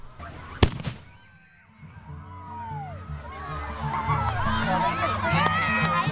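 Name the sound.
cannon firing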